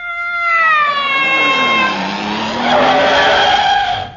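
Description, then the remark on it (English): A 95-foot-long motor car covered in mink, the delivery truck of the Imperial Ascot Tobacco Company, pulls up with a long, loud screech of skidding tyres, the squeal sliding in pitch over rumbling engine noise for about four seconds, with no talking. “Heavens, a 95-foot-long motor car covered in mink.”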